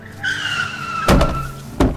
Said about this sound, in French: Quand la voiture est arrivée, j'ai vraiment cru que j'étais foutu.